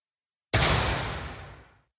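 A single starting pistol shot in a sprint-start reaction game cracks out of silence after the starter's 'on your mark, get set'. It is a sharp, full-bodied bang that trails off in a fading, ringing tail for just over a second. No voices accompany it.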